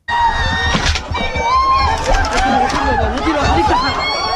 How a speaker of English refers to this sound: Here's some sound from Reuters from Eastern Ghouta outside Damascus. First come the sounds of airstrikes, then children screaming and desperate calls for help.